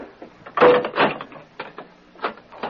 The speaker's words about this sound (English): Now close and lock the door.